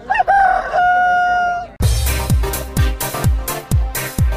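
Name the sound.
rooster crowing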